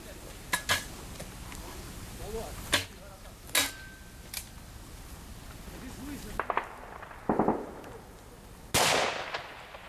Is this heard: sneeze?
no